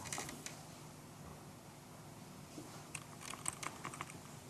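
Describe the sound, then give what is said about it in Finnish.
Someone types on a laptop's own keyboard to operate a virtual machine, in short, irregular bursts of light key clicks, a few at the start and a busier flurry toward the end, fairly quiet with no talking. “No ei hätää, se näköjään toimii tuolta läppärin näppäimistöltä, se ei toimi tuosta etänäppäimistöltä.”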